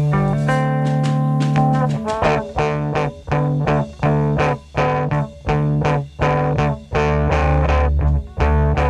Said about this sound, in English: If you listen really carefully, you can hear him change the pickup from clean to crunchy in the middle of a note.